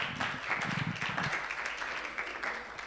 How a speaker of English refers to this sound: Awesome, awesome. Yeah, you can give a round of applause for that.